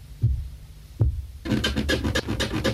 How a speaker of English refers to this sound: As you can see, Nora, the seventh step is still creaky.